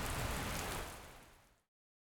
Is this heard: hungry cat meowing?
no